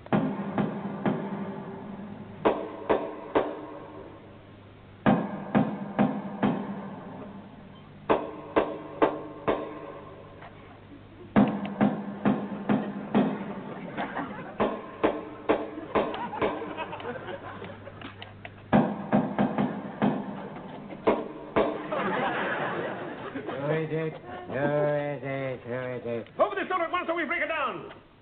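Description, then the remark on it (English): Sharp knocks on the door of a house come in repeated rhythmic bursts, a patterned secret knock played over and over, before voices start talking near the end. “This is the house, and I shall now give the secret knock that only he and I know.”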